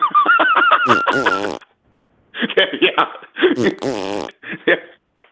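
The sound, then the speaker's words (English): A loud fart sound effect plays several times in a row, each blast a buzzy, honking sputter with short gaps of silence between them. “But before that, or even women that see me on the street, what I attract, go back to that sound effect of the fart.”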